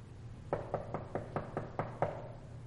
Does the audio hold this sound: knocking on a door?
yes